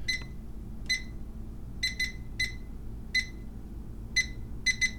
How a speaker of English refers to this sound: Here's some beeps.